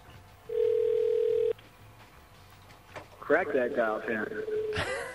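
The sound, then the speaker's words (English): A loud, steady telephone tone holds for about a second over a faint line hum as radio station WBAI places a call and waits to enter a secret access code, then cuts off; after a short pause, a voice begins talking. “Waiting for the secret access code. Okay, now we enter that.”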